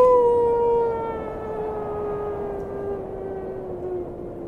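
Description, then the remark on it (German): Howling wind: a long, moaning tone slowly sinking in pitch over a steady bed of rushing noise. It starts loud and settles to an even level, with no voices. “warum ist das so windig heute?”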